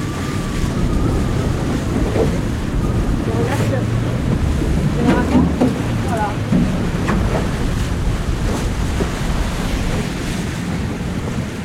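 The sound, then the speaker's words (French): Steady roar of wind buffeting the microphone over rough, churning sea water, heard from a boat in a shallow area where current and wind make the sea build very quickly, with waves slapping and sloshing against the boat's hull, continuous and loud throughout. “Et donc quand le courant arrive, là en plus vent, courant, en fait ça monte tout de suite dans la mer, en fait grossit très rapidement.”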